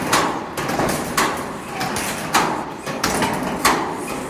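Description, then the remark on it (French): Loose sheet metal plates in a building being explored rattle and clank in the wind, a handful of irregular metallic bangs and knocks over a steady rushing, breathy wind noise. “On entend les plaques de tôle qui bougent avec le vent”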